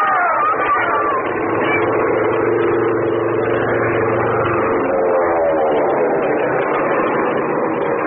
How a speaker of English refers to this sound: The plane was low, making a run right down Main Street. No bombs, no strafing, just leaflets. A flurry of leaflets, and then it was gone.